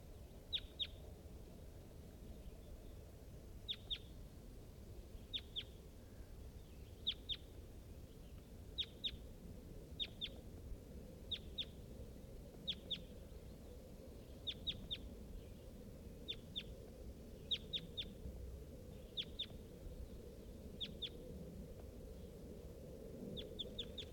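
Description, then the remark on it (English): A wild crossbill, close to the recordist, on a hilltop east of a bird-netting site, calls again and again with short, sharp, high-pitched double notes at a steady rhythm, roughly every second and a half, over a constant low rumbling background. “I'm really near that bird now. Wild bird.”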